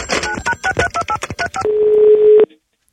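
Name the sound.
telephone dialing tones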